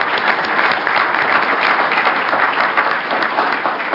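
Sustained applause from an audience for the panelists at the end of a panel session, a dense, steady patter of many hands clapping at once, loud and continuous for several seconds with no voices rising above it.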